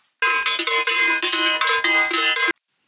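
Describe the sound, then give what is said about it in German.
A doorbell at a farmer's home in Bavaria, rung by Robert Habeck, rings in a loud, continuous bright metallic peal lasting over two seconds, with a rapid fluttering repetition, then stops abruptly. No voices are heard. “So, ich klingel mal eben.”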